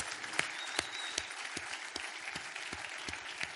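An audience at a worship service applauds God steadily, a dense wash of many hands clapping with a few sharper, louder claps standing out at irregular moments throughout.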